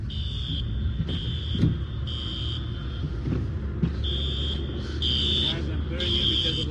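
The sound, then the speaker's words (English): Car alarms triggered by an intense storm, during which a rare tornado touched down in a suburb of Los Angeles, California, blare in a repeating on-off pattern of steady high-pitched tones, roughly six bursts, over a constant low rumble of wind and weather noise. “The sound of car alarms triggered by the intense storm was captured by a weather tracker”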